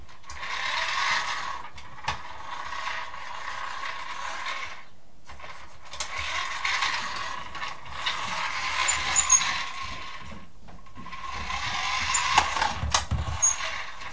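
A toy fire engine's mechanism whirs and grinds with a rattling, ratchet-like buzz, running in three long bursts separated by brief pauses, steady and fairly loud with no talking over it.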